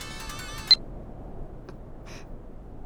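A bright electronic phone ringtone trills for under a second, then stops abruptly with a sharp click as the call is answered, leaving quiet background hiss and a couple of faint, brief electronic blips.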